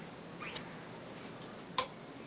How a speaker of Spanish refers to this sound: Enciende la luz.